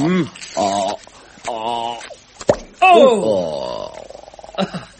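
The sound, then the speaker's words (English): A single sharp cork pop bursts out midway as a bottle is opened with a corkscrew, brief and loud, surrounded by wordless voiced murmurs and sliding vocal sounds before and after. “I've got the corkscrew, good. Let me open you one of these bottles.”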